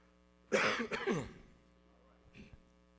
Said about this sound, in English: Excuse me, got a cough coming.